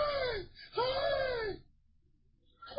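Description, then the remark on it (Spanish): A person wails and cries in two long, rising-and-falling anguished cries, loud, with a brief pause before a third cry begins. “Cuando tú estás adentro de ahí, estás llorando.”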